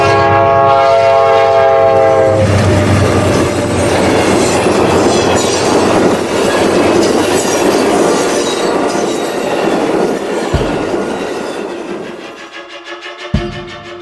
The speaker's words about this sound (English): The fucking train going into the distance, and you're going right to the credits.